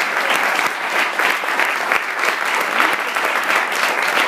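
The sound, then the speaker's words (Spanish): An audience claps steadily for several seconds, a dense, even patter of many hands at a fairly loud, constant level with no voices rising above it. “Pues repetimos, otro aplauso.”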